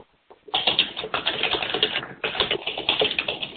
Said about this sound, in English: Oh, there's a lot of noise. I think that's someone who's typing on their keyboard.